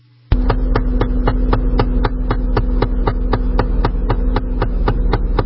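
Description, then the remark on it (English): A 2012 GMC Arcadia's engine runs with a steady low drone, overlaid by a loud, evenly spaced metallic ticking about four times per second that starts abruptly and continues throughout. “In fact, that's what John owns, is a 2012 GMC Arcadia.”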